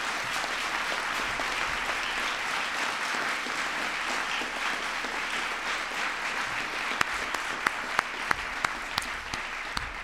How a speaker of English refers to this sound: So I want to not only give the young people a big round of applause, but all the parents and teachers and principals and everybody who was involved, give yourselves a big round of applause as well.